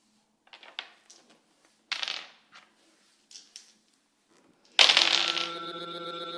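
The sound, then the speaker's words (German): Sheep knucklebones, an ancient Mongolian nomad game, are tossed, giving a scattered series of small, dry clicks and clatters, followed by a sudden loud, bright ringing tone that lingers to the end. “Nochen von Schaf, von Gelenke, ich weiß nicht, wie sagt man auf Deutsch, aber und wir spielen, das ist wirklich uralte Spielzeug für die Mongolen oder für die Nomaden.”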